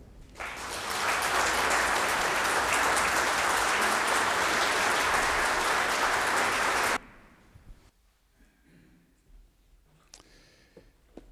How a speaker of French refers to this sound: Les applaudissements qui ont eu lieu sont très rares pendant les cultes. En disent long sur les remerciements qu'on vous adresse pour cette conférence que vous nous avez offerte.